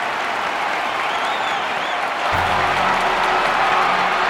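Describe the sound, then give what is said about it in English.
A large crowd of convention delegates stands to applaud and cheer Roosevelt as he reaches the podium on crutches, a dense, steady roar of clapping with whistles and shouts, growing a little fuller partway through, continuous and loud for the whole stretch. “As he reached the podium, leaning heavily on his crutches, the delegates stood to cheer him for 3 minutes.”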